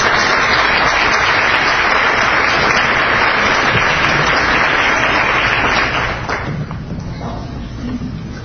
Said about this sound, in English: Thank you. So, big round of applause again.